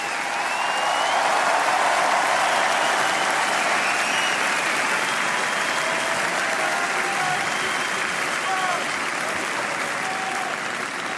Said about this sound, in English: Une nouvelle ovation pour Stefanos.